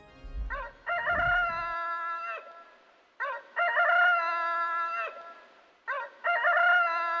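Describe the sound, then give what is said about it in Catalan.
A rooster crows loudly three times in a row at night, atop a church dome (cimbori), each cock-a-doodle-doo a short rising burst followed by a long sustained call, with brief pauses between them and a faint low rumble at the start. “De nit, dalt del cimbori, hem sentit cantar el gall.”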